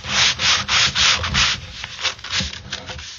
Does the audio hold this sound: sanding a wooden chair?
yes